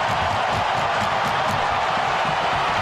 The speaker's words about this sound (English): Everybody are up on their feet as they should be, cheering on Alex. This is in a visiting stadium, too. Ovechkin. The Islanders are leaving the bench to come and congratulate him.